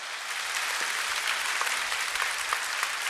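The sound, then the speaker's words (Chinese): Steady applause from an audience, clapping given to God, fills the whole moment, a dense wash of many hands clapping at once with no talking over it, sustained at an even level throughout. “我们拍手给上帝。”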